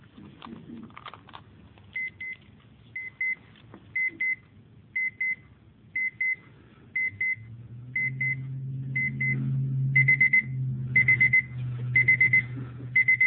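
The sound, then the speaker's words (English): A small alarm clock beeps as a wake-up call in steady double pulses that speed into quicker, continuous bursts toward the end, clear, over a low background hum that grows louder. “I'm not familiar with this little clock.”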